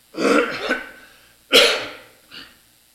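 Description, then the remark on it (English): A person clears their throat roughly during a class, then lets out a sharp cough followed by a smaller, quieter cough, all fairly loud with no talking. “I took a cough drop at the beginning of the class, and apparently it's fizzled out now.”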